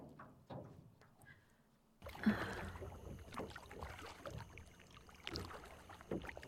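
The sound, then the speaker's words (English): A canoe paddle dips and pulls through lagoon water as the canoe is paddled out of the lagoon, in uneven strokes, each with a wet splash and swirl, over a soft watery background with faint wind; no one speaks. “Yes, it's a canoe. We're paddling out of the lagoon.”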